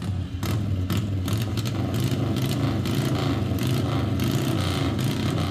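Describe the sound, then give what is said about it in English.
A Harley-Davidson XR750 45-degree V-twin race engine runs loud, its deep throaty exhaust pulsing in a rough, steady rhythm throughout, with crackling bursts layered over the low rumble and no voices. “other race engines, our XR750 that we had for years and years.”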